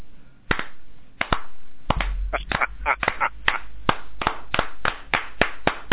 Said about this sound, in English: We wanted to give you an official slow clap because, let's face it, very few situations in life deserve or earn a slow clap, but you making your very quick return to the airwaves deserves it.